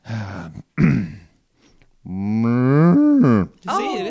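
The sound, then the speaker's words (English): A person does a drawn-out cow moo with their voice, low and throaty, gliding in pitch over a couple of seconds, preceded by short grunting starts and ending in a rising wavering call. “But this is just a lot of mooing.”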